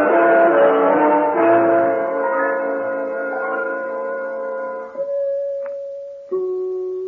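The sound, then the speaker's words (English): The doorbell of undertaker Monsieur Kermit J. Love's house rings out a sequence of rich, resonant chimes whose overlapping tones slowly decay, followed by two more single sustained tones struck a moment apart, with no talking. “Did you not hear those beautiful chimes? That is enough pushing on the bell”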